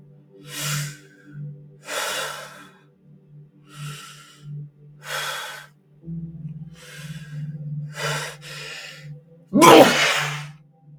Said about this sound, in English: Oh fuck, I'm gonna sneeze. Whew.